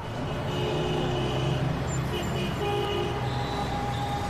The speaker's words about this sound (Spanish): Bueno, eso es el tráfico de la Ciudad de México, que es parte del sonido.